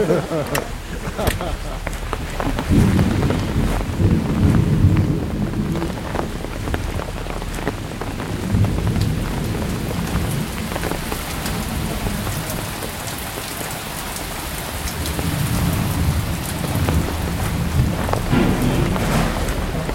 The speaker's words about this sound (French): ce coup de tonnerre godardien et cet orage qui nous est tombé dessus pendant le début de cet entretien